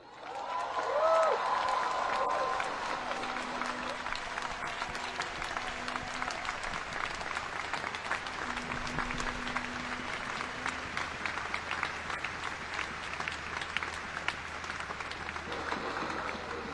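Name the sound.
crowd applause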